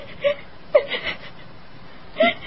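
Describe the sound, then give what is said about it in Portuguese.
A person crying softly in a grotto in a few short, breathy whimpers, three brief catches of voice spread over a couple of seconds, quiet, with no words spoken. “Por que está chorando?”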